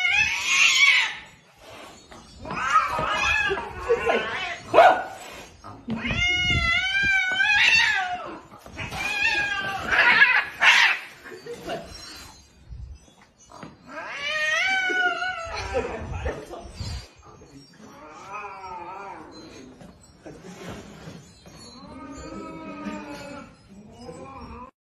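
Two cats, a resident cat and a new cat the owner has brought home, yowl and caterwaul at each other in a long, wavering exchange of drawn-out, rising and falling cries, loud, with brief pauses between bursts.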